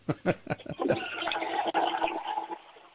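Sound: toilet flush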